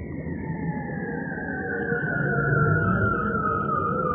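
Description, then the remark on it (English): A bearded seal's underwater trill, recorded with a hydrophone, glides slowly downward in one long, continuous warbling glissando call, loud, over a steady low rumble of water noise. “Yep, these weird alien-like noises are bearded seals.”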